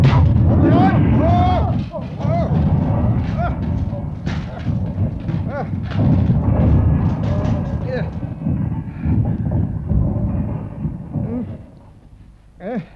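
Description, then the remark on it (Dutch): An airship crash-landing as its tail crumples: a long, loud rumbling crash full of heavy thuds, crunching and groaning creaks, with a voice briefly audible, before the noise drops away near the end, the ship ending up lying on its belly. “De staart kraakt in elkaar.”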